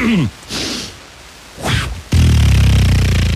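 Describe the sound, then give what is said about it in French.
A sound impersonator's voice imitates an arrow in flight: a breathy whoosh that sweeps upward in pitch, followed by a loud, buzzing, sustained impact noise that fills the last second and a half. “Est-ce que tu veux nous faire la flèche?”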